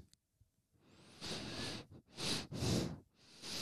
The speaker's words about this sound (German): Jetzt geht's gerade wieder. Die wird schon auf Pfeife. Ja, auf jeden Fall, mein Nas pfeift seit geraumer Zeit. Ich weiß auch nicht, warum.